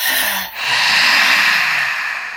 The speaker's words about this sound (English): So you put your shoulders up, right, like this? Way up like this. And then you, okay. And then you do you make a sound as well? Yeah, so you exhale like a roar, like.